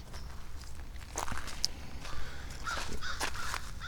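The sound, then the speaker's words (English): A crow gives a few harsh, raspy caws outdoors, with soft footsteps crunching underneath and no one speaking. “And so while we were out and about, we were talking about all kinds of weird stuff, and there's a big bird. Oh, it's just a crow.”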